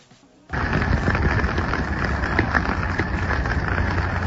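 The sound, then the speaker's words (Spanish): After a brief near-silent start, heavy rain sets in with a dense, steady hiss and crackle that holds at an even, loud level to the end. “Pero también hay la lluvia recreativa.”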